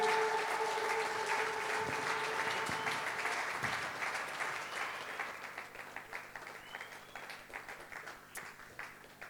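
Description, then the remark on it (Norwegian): An audience at a gathering in Lillehammer breaks into sustained applause for the team, a dense wash of many hands clapping that gradually thins out into scattered, individual claps toward the end. “Skal vi gi teamet her en skikkelig applaus?”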